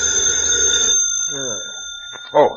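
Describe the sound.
A telephone rings with a bright, buzzing jangle for about a second, then stops, followed by a few brief voice-like murmurs and a short louder burst near the end.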